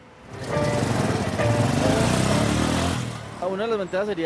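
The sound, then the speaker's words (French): A motorcycle engine roars in Medellín, loud and steady for a few seconds with a rising rev, then cuts off as a voice begins speaking. “Alors, ceci dit, quand même, point noir à Medellín, pour se déplacer, il y a la liberté de la moto, mais la moto, il ne faut pas se tromper, c'est quand même pour échapper aux embouteillages, parce qu'il y a beaucoup d'embouteillages à Medellín.”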